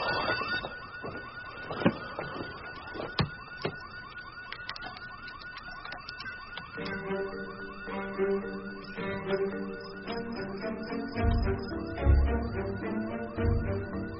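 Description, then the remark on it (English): A security alarm blares with a steady, piercing electronic tone that runs the whole time, joined by scattered clicks and thumps and a low rumble building near the end. “Who does the alarm system alert? The police.”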